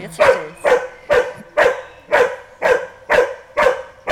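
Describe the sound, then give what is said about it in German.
A dog in search training barks steadily and repeatedly, about nine sharp, evenly spaced barks at a regular rhythm, loud, with no talking over it. “Dass sie also, wenn sie später am Wald jemanden findet, sich daneben legt und bellt und nicht da drauf rennt.”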